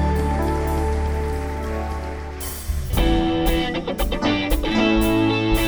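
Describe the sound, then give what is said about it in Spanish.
A church audience claps loudly and steadily for God throughout, a dense wash of applause layered over sustained keyboard chords, with a thumping drum beat joining about halfway through. “Si usted lo cree, denle un fuerte aplauso a nuestro Dios.”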